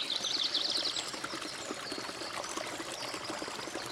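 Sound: flowing river water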